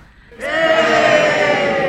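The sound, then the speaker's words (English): After a brief quiet moment, a crowd bursts into a loud, sustained cheer on cue, as instructed for an audience-participation story, many voices shouting together at a steady, full level until the end. “Various points where we need the crowd to cheer.”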